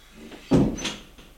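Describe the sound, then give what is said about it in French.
A woman closes the door after the last guest has left: it swings shut with a single solid thud, followed by a brief higher click of the latch settling, then quiet. “Elle ferme la porte,”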